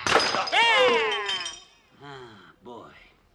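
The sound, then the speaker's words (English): A lamp is smashed over someone's head with a loud, bright crash of breaking glass whose ringing tones slide downward for over a second, followed by two short groaning voices. “Hit him with the lamp.”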